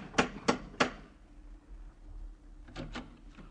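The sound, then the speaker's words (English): A brass lion door knocker on a brownstone on 93rd Street strikes three times in a quick, even rhythm, sharp metallic raps, then after a pause three softer, muffled knocks follow. No one speaks. “Third name now, and address, a little further uptown, 93rd Street, brownstone and door knocker of Brass Lion.”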